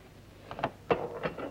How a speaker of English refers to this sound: A grey-haired man slides open a hatch door.